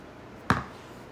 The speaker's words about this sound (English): At home, safely and securely, for what is probably the last time, with your mother. and you hear a knock on the door.